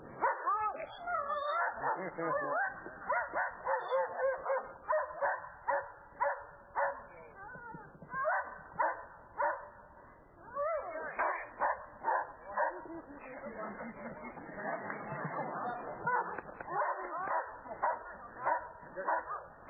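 A dog barks and yips nonstop and loudly during a dog training demonstration, with rapid, agitated bursts tumbling over one another for the whole stretch and barely a pause between them.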